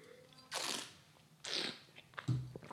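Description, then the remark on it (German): Two airy slurping sips of wine a second apart, taken in front of a microphone, each a short hissing draw of air through liquid, followed by a soft low throat sound, with no talking. “Spare ich euch den Einspieler mit dem Schlürfen, sondern trink einfach hier jetzt vorm Mikrofon.”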